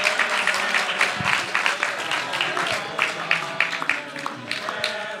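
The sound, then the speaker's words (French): A room full of people applauding steadily for Peter Jackson's birthday on Halloween night, a dense wash of many hands clapping, with some indistinct voices mixed in beneath the clapping. “Éventuellement lui chanter un petit quelque chose ou applaudir, parce que c'est quand même.”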